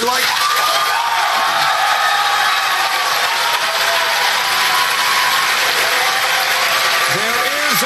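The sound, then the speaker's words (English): A large pro-Bernie Sanders debate audience bursts into sustained, loud applause with cheering and whooping, a dense steady roar of clapping throughout, with a few raised voices shouting near the end. “Those guys went nuts.”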